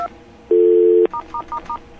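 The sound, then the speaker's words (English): Touch-tone dialing into a Linksys phone adapter's configuration menu through a phone patch: a short beep, a half-second steady tone, then four quick, evenly spaced keypad tones, clear with no voices. “Okay, and by the way, I was talking about that configuration menu. Here's what it sounds like.”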